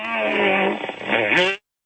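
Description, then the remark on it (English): A loud, drawn-out fart on a radio show's phone line, right after a caller says "Baba Booey", with a buzzy, rasping tone, lasting over a second and wavering in pitch before stopping abruptly into silence. “A guy said Baba Booey and then farted.”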